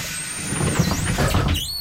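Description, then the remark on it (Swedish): A bus on line 168 hisses with a brief air-brake release as high squealing tones sweep and dip, over a steady low rumble of the vehicle, ending with another rising squeal like doors sliding. “Välkommen längst bak i bussen. Ja, där sitter vi längst bak, busslinje 168.”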